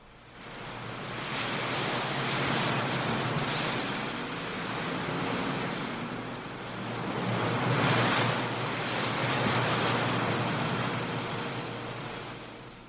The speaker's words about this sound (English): You know, there's an updraft all the time coming up out of the heat down there at the bottom, and that makes for a constant wind that whips at the scrubby pine trees on the canyon edge. Just listen.